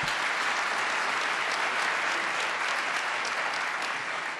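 Sustained applause from a large audience, a dense, steady wash of many hands clapping at even loudness throughout, with no voices rising above it.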